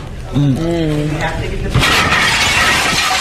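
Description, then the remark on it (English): A voice is heard briefly, then a car suddenly crashes through glass and metal where people are eating burgers: a loud impact followed by a sustained wash of shattering, scraping debris. “I mean, it was glass, metal.”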